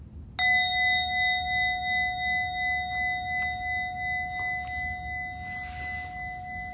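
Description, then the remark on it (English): A single meditation bell is struck once to end a meditation and rings on, its clear, sustained tone slowly wavering and fading over several seconds, heard alone. “So at the sound of the bell, we'll end this meditation.”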